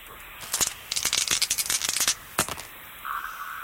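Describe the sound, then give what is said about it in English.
Dice are rolled carefully and rattle and clatter across a surface in a quick run of sharp clicks lasting over a second, then a single final knock, followed by a faint steady hum. “Very carefully, he rolls the dice once more.”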